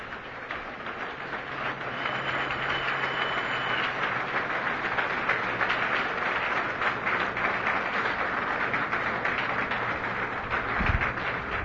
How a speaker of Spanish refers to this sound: ¿Por qué no te das un aplauso fuerte por haber hecho ese esfuerzo de estar aquí y vencido todos los obstáculos?